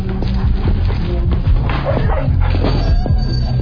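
dog barking and yipping

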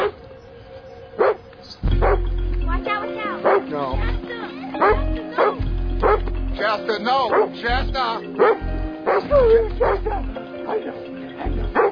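dogs barking

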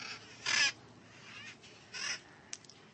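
bird calling

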